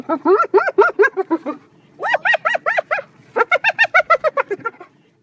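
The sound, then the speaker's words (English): A spotted hyena's giggling laugh call: three loud bursts of rapid, rhythmic high-pitched whooping notes, each run of about seven to eleven yelps fading toward its end, with short pauses between. “That's the so-called laughter of a spotted hyena.”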